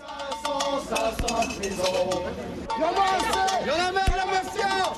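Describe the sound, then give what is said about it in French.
A crowd of anti-Fillon protesters clangs metal pots and pans in a dense, continuous din of ringing hits, with shouting voices and chatter mixed throughout, loud, in front of the town hall of Tourcoing, greeting presidential candidate François Fillon. “Casserole et nom d'oiseau devant la mairie de Tourcoing pour accueillir un François Fillon qui a pris le soin de rentrer par une porte dérobée.”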